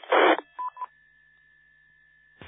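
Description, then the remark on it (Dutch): A short hiss of amateur radio static, then two quick touch-tone beeps used to link a repeater on a West Frisian amateur radio net, with a faint steady whine lingering before another burst of static at the end. “En ik koppelde de repeater in, maar die was al gekoppeld.”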